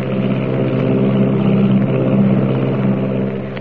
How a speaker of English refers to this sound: Is there someone lurking in the tail of the Army plane as it roars through the sky at 300 miles an hour?